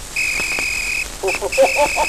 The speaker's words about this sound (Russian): И вот пред вами тот исторический свисток.